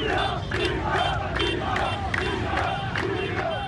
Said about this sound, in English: In Tripoli on Sunday, people shouted chants, echoing the protests that led to the rebellion back then.